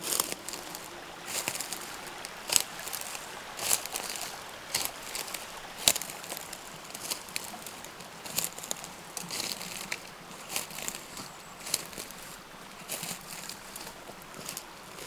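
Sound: small stream flowing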